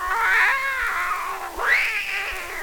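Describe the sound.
A cat lets out a long, wavering meow that bends down and then rises into a second drawn-out yowl, loud, with no voices around it.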